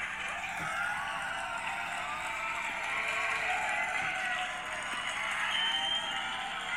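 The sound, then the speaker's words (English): A large, excited crowd cheers and shouts as Jesus rides into the city on Palm Sunday, in a dense, continuous roar of many overlapping voices that stays loud and steady throughout with no pauses. “I can just about hear the crowd now as they anticipated what Jesus was going to do.”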